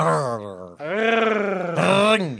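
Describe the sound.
Two men imitate cat meows with their voices: three loud, drawn-out, nasal calls back to back. The first falls in pitch, the second holds long and steady, and the last rises then drops.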